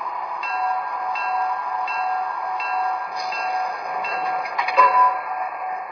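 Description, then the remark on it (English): A passenger train, train number one to Chicago, the Empire Building, idles on track one at a station platform with a steady mechanical hum and hiss, broken by faint metallic clinks and a brief louder clatter near the end. “to Chicago on track one, train number one, the Empire Building.”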